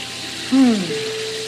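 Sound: running water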